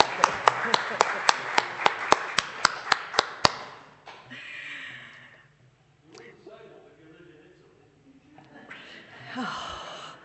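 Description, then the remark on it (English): A brisk, steady round of hand claps at a service, celebrating the lovely weather, about a dozen sharp beats in quick even rhythm over a few seconds, then the clapping stops and voices talk quietly. “Should we clap God?”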